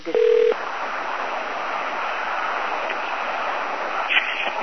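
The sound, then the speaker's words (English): A single short electronic telephone keypad tone beeps loudly at the start as a caller joins the call, followed by a steady hiss of phone-line noise with no talking. “So I think someone just got on and must be on a cell phone. So can everyone do star six to mute themselves?”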